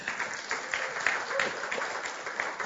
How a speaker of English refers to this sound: Hallelujah. Hallelujah. Can we give Jesus a mighty hand clap?